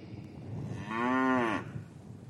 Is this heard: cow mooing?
yes